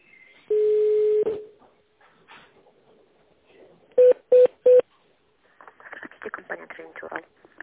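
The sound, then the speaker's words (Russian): A steady beep, then three quick evenly spaced touch-tone keypad presses dialing a company employee's internal extension in tone mode, followed by a caller from the company Rostender starting to talk over a phone line. “Для связи с сотрудником компании введите его внутренний номер в тональном режиме.”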